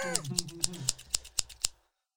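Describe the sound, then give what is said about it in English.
Seven crisp scissor snips in a quick, steady rhythm, fairly loud, with a brief murmur of voice under the first few cuts before the sound stops abruptly. “Scissors cutting off your wiener.”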